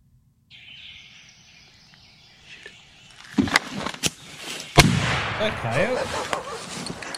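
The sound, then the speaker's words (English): A hunter shoots a coyote that swings through a turkey hunting setup. The loud, sharp gunshot cracks out after a few quieter clicks and thumps, over a steady hiss with birds chirping, and a jumble of sound and faint voices follows the blast. “So a coyote swings through the turkey setup. This happens, too. He smokes it.”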